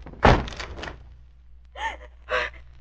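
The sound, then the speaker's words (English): A door is forced open with one heavy thump and a brief rattling crash, followed by quiet and then two short, breathy gasps. “Try to force the door open quickly.”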